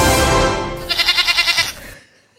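A goat bleats loudly, a drawn-out cry that breaks into a rapid, quavering warble of about eight pulses before cutting off. No one speaks.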